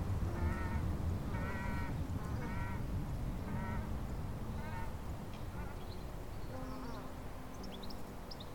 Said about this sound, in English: A couple of paralyzed ducks just went flying up the valley.